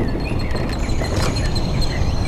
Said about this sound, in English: Does it seem kind of more quiet than usual? Yeah. That's nice. Hardly any cars, hardly any planes. The birds seem louder, but everything else is eerily still.